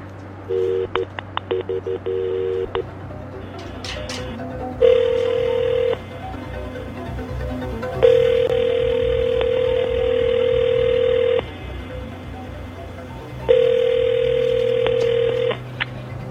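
A rapid run of telephone dialing beeps for a three-way call, then a steady phone tone sounding in three long bursts separated by short silences, clear over a faint line hum, with no voices.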